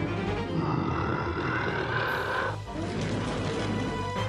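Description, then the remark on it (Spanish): A dragon caught in a trap set by soldiers roars: a deep, rumbling roar sustains for about two and a half seconds, then breaks into a rougher, growling second roar that continues loud and gravelly to the end. “En su 10º cumpleaños estaba paseando cuando oyó al dragón gritar.”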